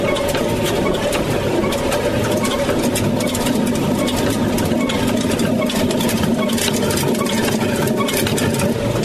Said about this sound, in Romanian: Boabele de porumb sunt zdrobite de pietrele care se rotesc cu o turație mică. Zilnic aici se macină aproximativ 100 de kilograme de făină.